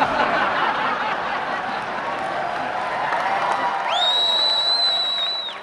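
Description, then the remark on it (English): A large crowd at a political rally cheers, claps and laughs in a steady, dense roar at a speaker's punchline about voting, and near the end a man in the crowd gives a loud, sustained high whistle. “The crowd's eating it up.”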